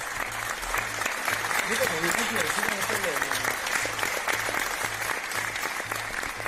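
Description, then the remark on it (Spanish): Sustained applause from many people clapping from balconies at 8 in the evening during the pandemic, a dense crackling wash with a steady rhythmic thump underneath, continuous throughout with no voices standing out. “¿Te acuerdas de aquellos aplausos a las 8 de la tarde?”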